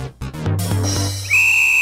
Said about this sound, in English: The whistle was a few decibels too loud and scared some people. That's what I remember. The original opening intro for NFL Rants and Raves.